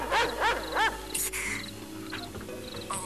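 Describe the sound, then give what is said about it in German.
A large dog barks three times in quick succession, loud, each bark deep and rough, followed by softer scuffling and background noise. “Hier ist ein Hund. Ein ziemlich großer Hund.”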